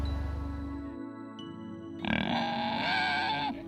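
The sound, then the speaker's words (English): A pig in South Georgia grunts, starting with low rumbling snorts before breaking into a louder, harsher squealing grunt that holds for over a second. No one speaks. “You think we could charge a service to have people come out and have a spa day with a pig?”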